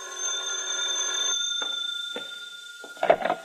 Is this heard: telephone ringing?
yes